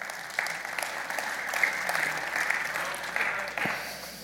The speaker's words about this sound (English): Yeah, we can clap to that.